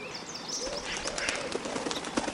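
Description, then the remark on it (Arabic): A dove coos softly amid a steady wash of small birds chirping and tweeting, a continuous outdoor chorus with no one speaking. “كان يا ما كان في قديم الزمان كانت هناك حمامة تريد أن تبني عشا لها.”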